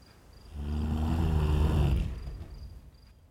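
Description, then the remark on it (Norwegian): A single loud, rough snore from Sappo, asleep in bed, drawn out for about a second and a half, deep and rumbling, then fading away, with a thin steady high chirping in the background. “Sappo snorker så hele huset rister.”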